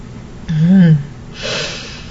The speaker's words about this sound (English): Hearing my gasp, you call out one moment.